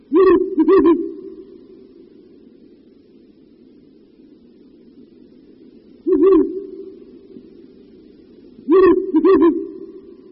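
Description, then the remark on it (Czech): Deep, resonant Ural owl hoots in three short bursts, each a quick pair or double note, separated by long pauses over a steady low background hum; the calls sound clear. “V Čechách se udržel puštík bělavý pouze na Šumavě a zejména v 19.”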